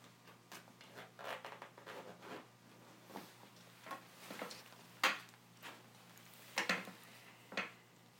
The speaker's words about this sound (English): Let me get your belt off. And your zipper.